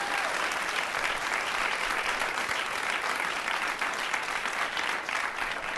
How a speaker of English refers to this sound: Please give this man a round of applause.